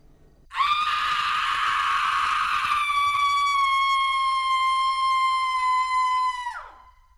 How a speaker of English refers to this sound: We hear the screams, and it sounds like a mountain lion, but something sounds really off about it. But we keep walking towards it.